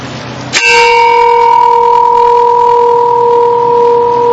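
A single loud strike of a church bell at a homeless camp rings out, its sharp clang settling into a steady, sustained metallic hum that lingers for several seconds with no voices. The bell is rung on Sundays about 12 o'clock to call the camp to service.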